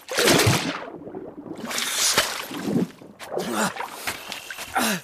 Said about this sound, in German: Oh, Wasser, endlich!